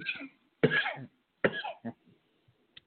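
A person who has choked gives two or three harsh, throaty coughs in quick bursts, followed by a short hack and a faint click, with no speech over them.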